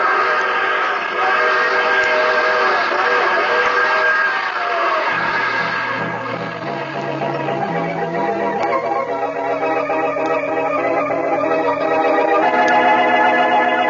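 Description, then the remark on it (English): A loud train whistle sounds in long, sustained blasts that shift in pitch, blown as the train approaches a crossing up ahead, carried over the steady rumble of a moving train, with no talking. “I can't say as much for the rest of the passengers on this train. Uh-oh, crossing up ahead. Better give them a whistle.”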